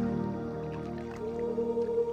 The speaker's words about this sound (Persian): اکنون میتوانم بشنوم صدای جاری برکه را که به نوازش پاهای خستم آمده است.